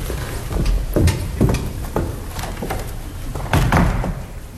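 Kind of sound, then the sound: household object, doors being closed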